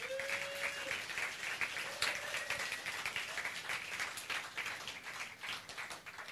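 Sustained audience applause for the people who keep preaching the gospel in their own places, a dense wash of many hands clapping steadily for several seconds at a fairly even, moderate loudness, with a faint tone briefly sounding at the start.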